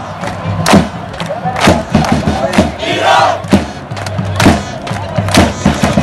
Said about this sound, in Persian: من الان کنار سکوهای هواداران ایران هستم. اینجا هیچ کس ننشسته، همه ایستادند. پرچم‌ها روی شانه هاست، چشم‌ها به زمین دوخته شده و فقط یک صدا شنیده می شود. ایران!